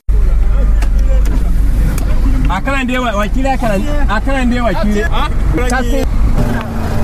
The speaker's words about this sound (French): Dix heures au rond-point des Nations Unies de Ouagadougou. Entre bruit de moteur et klaxon